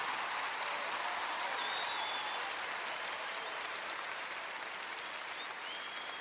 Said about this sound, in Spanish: No, son sus músicos, los músicos hondureños, los que merecen un aplauso y un reconocimiento de parte nuestra. Fuerte ese aplauso.